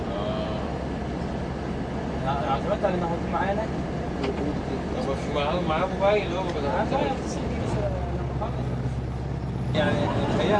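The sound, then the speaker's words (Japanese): A steady, heavy diesel rumble comes from a shared bus converted from a truck on a busy street in central Cairo. It stays loud throughout, with traffic noise and indistinct voices chattering over it. “カイロの真ん中です。これはなんか乗り合いバスのトラックを改造したようなバス。”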